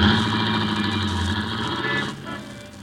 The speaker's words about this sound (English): Up Broadway, into traffic jams, across 42nd Street, into the heart of theaterland.